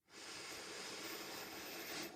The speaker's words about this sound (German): Du sollst dich beim Atmen nicht überanstrengen. Dann atmen wir wieder hier gemeinsam ein